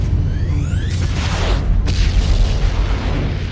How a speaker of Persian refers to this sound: دریافت شد. مراقب شلیک باشی.